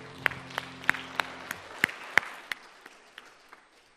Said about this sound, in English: much, boys and girls, and let's give the mummies and daddies a round of applause.